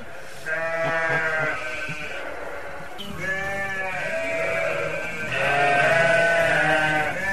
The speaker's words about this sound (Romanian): Ne luăm rămas bun de la cele 200 de oi mame cu miei lor și mergem mai departe.